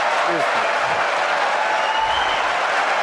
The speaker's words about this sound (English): He gets a one-liner about Rosie O'Donnell. The crowd cheers.